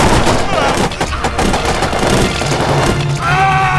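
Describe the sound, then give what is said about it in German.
Loud gunfire crackles in rapid, overlapping bursts for several seconds, a chaotic barrage fired into an enemy line, with a rising tonal whine appearing near the end. “Schuss um Schuss fielen unsere Gegner.”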